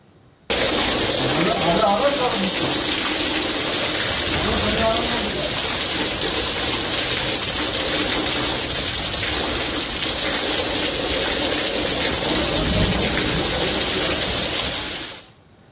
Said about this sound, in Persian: حتی بیمارستان گلستان اهواز هم البته دچار آب گرفتگی شد و از این باران در امان نبود.